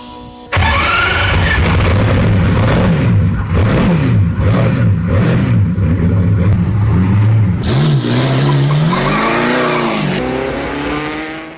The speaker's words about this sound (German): Bleibt natürlich noch die Frage, wie klingt denn nun so ein Bugatti Typ 35? Und das hören wir uns jetzt mal an.